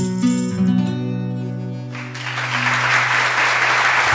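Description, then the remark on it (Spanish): A sung melody with sustained instrumental notes fades out, then an audience of about 300 people watching from a window bursts into loud, dense applause that continues steadily to the end. “Bravo, bravo, mira cómo os aplauden las 300 personas que tenemos ahí desde la ventana, sí.”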